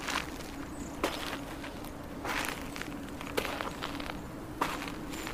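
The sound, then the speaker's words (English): Footsteps of shoes crunch across the thick salt layer covering the playa of the Daghestan Desert, each step a crisp, gritty crackle repeating at an unhurried walking pace over a steady low rumble, with no voices. “Well, the rustling of my shoes on Earth is because of the fact that a thick layer of salt has covered the surface of the desert.”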